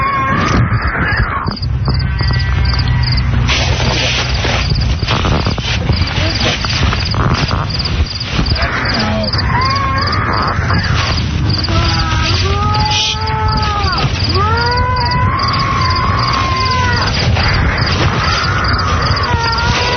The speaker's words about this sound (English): we're going to play the sound again of this creature that is supposed to be a creature that is created in a ceremony